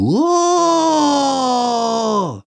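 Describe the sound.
A human voice imitates a wolf howl, in a spoken scary story about how the spirits of the squelching bogs howl: one long, loud sustained tone that rises quickly, holds a steady slightly falling pitch for about two seconds, then drops off abruptly.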